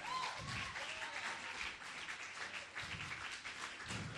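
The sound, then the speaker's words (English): An audience claps their hands for Jesus in sustained applause, a dense, steady crackle of many hands with faint voices and a few whoops rising through it. “Now clap your hand for Jesus.”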